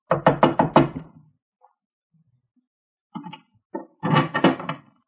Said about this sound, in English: We went past the band to a doorway next to the kitchen. And up a narrow staircase to an iron door at the top. The waiter rapped on the door.